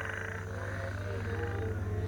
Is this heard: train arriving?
no